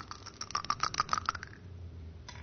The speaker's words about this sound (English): your turn to throw the dice.